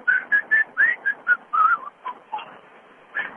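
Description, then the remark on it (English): A talent show contestant from Imperial, Missouri whistles a birdlike warble over the phone: a quick series of short, bright, fluttering notes that rise and dip in pitch, moderately loud, with no talking. “Not bad little warble.”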